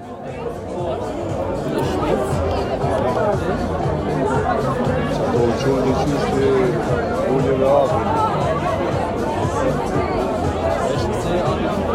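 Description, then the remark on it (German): Loud chatter of many people talking at once, a dense, steady babble of overlapping voices with no single speaker standing out, continuing evenly for the whole stretch. “typische Geräusche für meine Heimat sind viele Autos, Musik überall, laute Musik und laut sprechende Menschen.”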